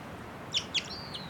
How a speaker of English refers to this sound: And 274 calling. That bird I think might be a male. And it's giving some song now.